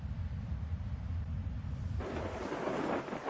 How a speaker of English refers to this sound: Thunderstorms are an amazing display of the Creator's might. An average thunderstorm pours down several hundred million gallons of water, equivalent to the amount of water that flows over Niagara Falls every 6 minutes.